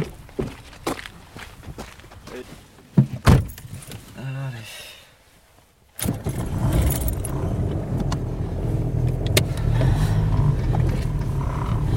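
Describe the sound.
Footsteps and jangling keys, then a car door thuds shut; a short pause gives way to a steady engine rumble as the car drives off to the library on a Saturday. A voice speaks briefly near the start.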